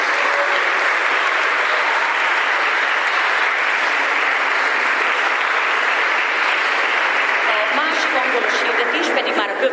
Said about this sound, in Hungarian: Nagy tapsot kérünk!